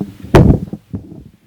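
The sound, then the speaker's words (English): A single sharp, explosive sneeze, bursting out suddenly and fading quickly, followed by a softer, muffled noise and quiet background. “Bless you.”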